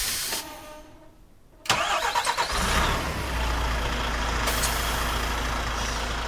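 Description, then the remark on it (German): A heating-oil tanker truck from the firm Lang Energie in Kreuzlingen, loaded full with 22,000 litres of eco heating oil, starts up with a sharp burst, then settles into a steady low rumble that builds as it pulls away to deliver to seven single-family houses in Weinfelden, with a brief hiss like releasing air brakes. “So, jetzt habe ich 22'000 Öko Heizöl geladen. Also der Wagen ist voll. Wir fahren auf Weinfelden und dort haben wir 7 Einfamilienhäuser, die wir beliefern.”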